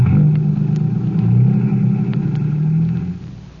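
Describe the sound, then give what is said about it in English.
A car engine rumbles loudly, its pitch rising and falling as it revs, then the sound drops away quickly as the car pulls off. “Well, climb into my car, Collins. I'll give you a lift in that direction.”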